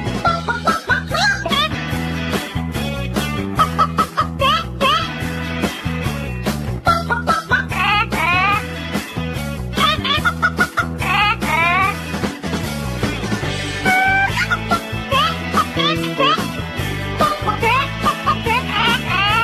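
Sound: chicken clucking sound effect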